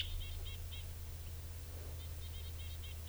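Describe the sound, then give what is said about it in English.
A wild bird perched at the top of a Douglas fir, about 15 feet up, calls in quick clusters of short, high chirps, pausing in the middle before a longer run of chirps, all fairly faint over a steady low hum. “Recording, there's another bird here.”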